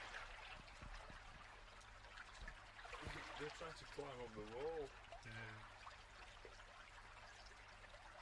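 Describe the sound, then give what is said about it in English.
Water trickles and gurgles steadily, a soft continuous bubbling under outdoor ambience, while a man talks briefly over it. “This sort of keeps fucking bubbling up in this bastard.”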